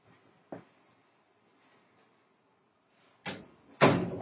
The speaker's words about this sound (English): Hold on, I'm going to close the door.